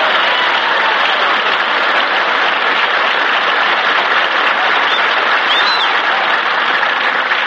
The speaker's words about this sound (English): Applause! Applause!